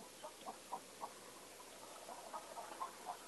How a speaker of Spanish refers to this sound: Pajaritos, como un gallo, una gallina. Una gallina. Una gallina, qué lindo.